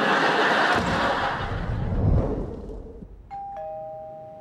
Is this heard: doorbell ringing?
yes